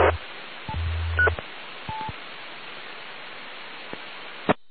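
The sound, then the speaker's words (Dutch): Steady amateur radio hiss fills the channel, broken by a few brief low hums, short beeps and sharp clicks as a station keys its transmitter on and off without modulation. No voice comes through, and the signal is very far off. “Ik hoorde wel iemand inschakelen, maar nog geen monatie.”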